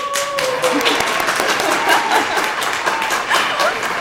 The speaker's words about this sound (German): Grosser Applaus!